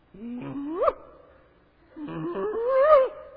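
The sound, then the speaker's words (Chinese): A person growls like an angry dog that is approached while eating, imitating a pack of wolves about to devour their prey, in two fairly loud bursts, each rising into a strained snarl, with a short pause between them and no other talk. “我在我细汉的时候，我在台东，我们都看到那狗在咬哈，啊狗在生气的时候，如果它在吃东西，你靠近它，它会怎么样？”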